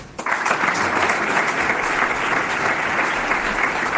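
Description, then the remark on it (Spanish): A crowd at the General Assembly of hoteliers bursts into sustained applause after a speech by Colomer, a dense, steady roar of clapping that starts abruptly and holds at full strength throughout, with no voices standing out. “Colomer, como oyen, ha levantado los aplausos.”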